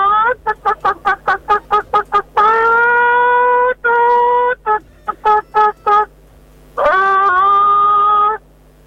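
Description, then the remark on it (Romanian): A caller from Hunedoara imitates a hen over the phone for a radio contest, loud: a rapid run of short clucks, then drawn-out squawking calls broken by more clucks, ending on one long cackle. “Tot ce trebuie să faci este să ne suni și să ne cod-codăcești.”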